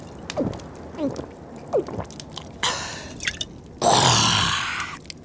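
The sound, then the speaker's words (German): A long drink from a freshly uncorked bottle: three gurgling, swallowing gulps with falling pitch, followed by two loud breathy exhales of satisfaction. No one speaks. “Ein kräftiger Schluck.”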